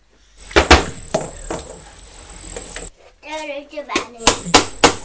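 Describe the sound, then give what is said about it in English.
A young child bangs a comb against a wooden drawer front in a string of sharp, irregular clacks, loud and hard-edged, with a brief, high child's voice cutting in between bursts of knocking. “Using your comb to bang, aren't you?”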